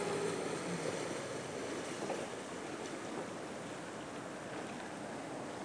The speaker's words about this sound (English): And then there's the rescue boat just coming up in front of us, gliding along. There's a motorboat, the boater.